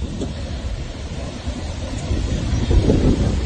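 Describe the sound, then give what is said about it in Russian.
Tsunami waves surge onto the shore in a steady, heavy roar of rushing water, overlaid with wind buffeting the microphone. The rumble swells louder toward the end, with no voices. “Пошла цунами, вот захлёст пошел большой, ну небольшой.”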